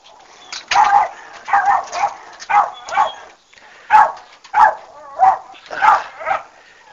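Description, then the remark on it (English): A dog named Odie barks repeatedly, about ten sharp, fairly loud barks in an uneven rhythm, with short pauses between them and no other voices. “I think you probably hear my dog.”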